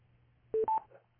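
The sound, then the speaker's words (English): Two quick, loud telephone keypad tones beep one right after the other as a caller dials back in on a landline, standing out over a faint low hum, with no talking. “So I'll call back in.”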